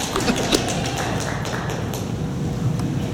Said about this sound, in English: For the three or four of you that are clapping, there's a whole bunch of people that are pretty upset, I gotta tell you.